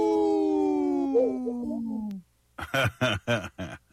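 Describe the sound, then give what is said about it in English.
A person imitates a wolf pup's howl with one long, wavering cry that slides downward for about two seconds, followed by a short pause and several quick, choppy vocal bursts. “Oh, it was a little baby. Wolf pup. Yeah, a little pup.”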